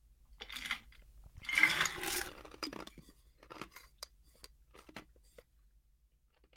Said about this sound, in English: I'm just waiting for you to finish crunching your ice to the microphone.